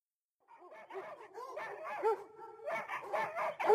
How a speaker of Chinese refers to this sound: 他被邻居家的狗叫声给吵醒了。